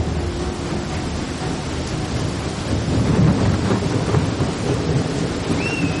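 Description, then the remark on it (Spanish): A roaring storm at sea badly damaging a sailing ship in 1522: steady heavy rain and wind with a deep rumble of thunder swelling midway, dense and loud throughout, no voices. “Pero los continuos temporales se interpusieron en su avance y finalmente llegó la tormenta que dañó gravemente la nave.”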